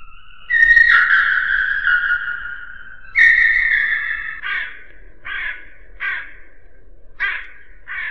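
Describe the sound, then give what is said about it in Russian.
A crow caws loudly over the roof of a house, two long drawn-out harsh calls followed by a series of five shorter, clipped caws spaced about a second apart, with no other sounds around it. “Кто это картавит над крышею дома? Ворона.”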